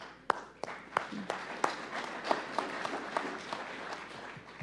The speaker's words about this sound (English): you deserve a mighty, mighty round of applause for just a second for taking the time, the effort, the resources, and the commitment to serve the people of Western Colorado. I applaud you.